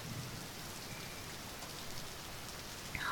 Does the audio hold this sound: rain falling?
yes